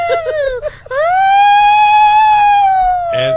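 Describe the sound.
A person leaning out of a window in heavy traffic imitates a police siren: a few short vocal bursts, then a loud wail that rises and holds steady for about two seconds before dipping at the end.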